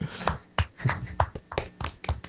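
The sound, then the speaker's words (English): Scattered, irregular claps from a small audience, fairly soft, with about ten distinct hand strikes over a couple of seconds and no talking. “I don't know if you can listen, but the audience is clapping.”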